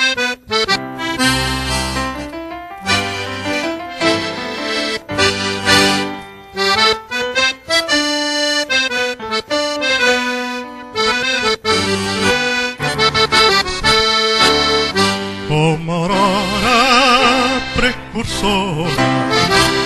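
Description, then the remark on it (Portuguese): A national anthem played by Márcio Fumaco on accordion and Fernando Zamboni on keyboard, with sustained reedy chords and a steady, stately melody carrying loud throughout, no voices. “Voltamos todos à posição de respeito e vamos ouvir o hino, então.”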